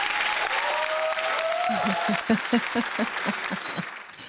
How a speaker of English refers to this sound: Audience, a big round of applause for a fabulous freedom fighting and country loving conservative patriot.